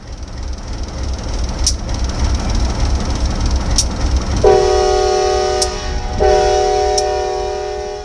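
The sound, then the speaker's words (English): Skagway's Santa train, its green engine decked with a red holiday ribbon, rumbles into the Skagway station with sharp metallic clicks, then its horn blares twice, a short blast followed by a long, loud, sustained one over the steady roll of the cars. “The green engine of the Santa train is decked with a red holiday ribbon.”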